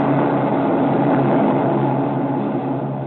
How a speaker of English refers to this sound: As the war in Europe went into its last desperate stages, there was an increased activity on the Manchurian side of the border. Those are Japanese reconnaissance planes